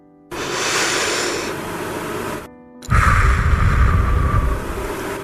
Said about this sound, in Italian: Ogni atto respiratorio ha un suo tempo. Proviamo insieme a fare un respiro.